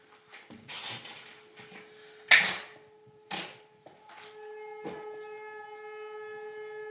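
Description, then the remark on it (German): A fire brigade siren sounding a fire alarm drones on a steady, sustained tone that swells and gains a brighter, buzzier edge toward the end, with a few sharp clacks and knocks scattered over it. “Ich weiß nicht, ob es jetzt gerade zu hören ist, aber hier geht gerade der Feueralarm los. Also die Feuerwehrsirene.”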